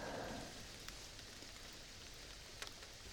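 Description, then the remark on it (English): Steady rain falls throughout, a soft continuous hiss with scattered sharper drops tapping, fairly quiet and even, with no voices present. “I know you love the rain in autumn.”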